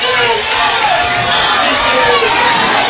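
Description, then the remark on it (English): A large football stadium crowd roars and chants "defense" loudly and steadily as it comes to its feet, a dense, continuous wall of massed voices with no break. “You hear the crowd chanting, defense, now they come to their feet.”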